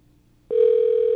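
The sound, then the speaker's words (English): A steady, unbroken telephone line tone, heard while a call to Time Warner Cable is being transferred, starts abruptly after a brief moment of near silence and hums on at a constant pitch and loudness until the end. “Please hold while your call is transferred.”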